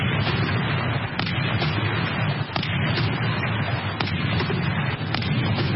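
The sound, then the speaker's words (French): A series of cannon shots from a 21-gun salute marking the president's swearing-in for a second term in Nigeria on 29 May 2019 booms at irregular intervals of about a second, partly masked by steady loud crowd or outdoor noise. “Une prestation marquée par 21 coups de canon.”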